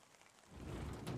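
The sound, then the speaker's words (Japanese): Steady rain patters down in a soft, continuous wash, swelling a little louder partway through, with no voices present. “雪かな。いや、雨だな。”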